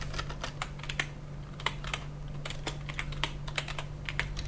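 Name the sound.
computer keyboard typing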